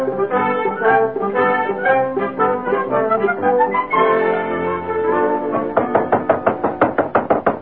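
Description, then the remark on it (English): A sustained musical passage gives way to a burst of rapid, insistent knocking on a door, about a dozen loud raps in quick succession over the closing seconds. “Who is it? Open the door, quick.”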